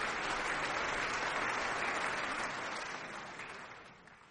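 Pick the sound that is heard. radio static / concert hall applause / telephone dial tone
concert hall applause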